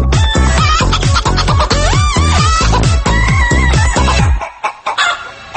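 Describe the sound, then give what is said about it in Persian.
A loud, bouncy dance track built from chicken clucks and rooster crows, chopped into a steady rhythmic beat with a heavy kick, then briefly dropping out near the end. “اینم همینه، اینم هم تو مایه دی جی قدقد خودمونه.”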